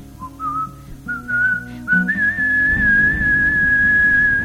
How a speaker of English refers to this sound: You impudent little daughter, what makes you whistle now? I'd rather whistle for a man than for a sheep or cow.